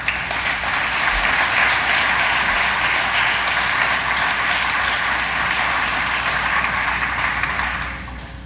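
Sustained applause from an EAA audience recognizing Dave Klages as an award is presented to him, a dense steady patter of many hands clapping at an even loudness for several seconds before tapering slightly at the end. No one speaks.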